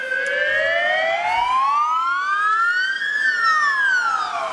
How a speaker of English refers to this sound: let's see what this ambulance is doing here.